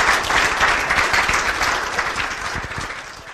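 An audience applauds the speaker, an Iowa pig farmer, after his lecture, a dense wash of many hands clapping at a fairly loud, even level that tapers off slightly toward the end, with no voices standing out.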